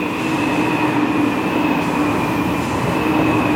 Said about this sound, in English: Shit, there's a train going by.